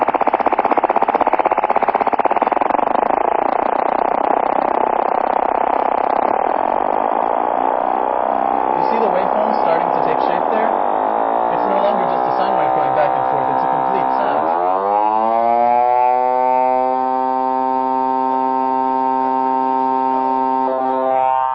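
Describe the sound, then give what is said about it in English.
A loud, sustained FM synth tone, a simple sine wave whose vibrato-like modulation keeps speeding up until the wobble fuses into a bright, buzzy, steady timbre, showing basic FM synthesis. No voices, just the tone throughout. “That is FM in its most basic form.”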